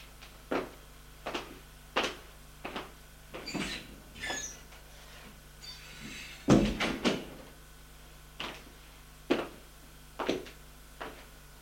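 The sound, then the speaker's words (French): A bathroom door is handled and opened and closed as a man goes to shave, with a series of sharp clicks and knocks spread throughout and one louder thud midway, with no voices. “une porte qui donne au cabinet de toilette. Monsieur Jean va se raser.”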